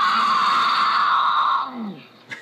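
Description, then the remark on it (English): A female mountain lion in heat screams: one loud, drawn-out, raspy wail holds steady for over a second, then drops and trails off into a lower, fading moan, heard alone. “the most misunderstood sound is what he calls the infamous mountain lion scream”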